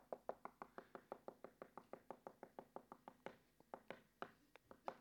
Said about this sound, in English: Number three, knocking. Knocking. Knocking refers to persistence.